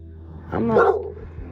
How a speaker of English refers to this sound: See my dog? See, he trying something new. He trying to bark during my episodes. He trying some new shit.